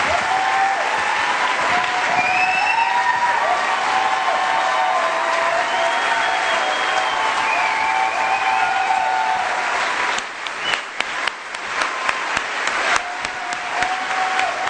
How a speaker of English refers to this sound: Senator Edwards pausing as he gestures towards his running mate and elicits one more round of applause for the Democratic presidential nominee.